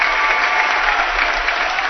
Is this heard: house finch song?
no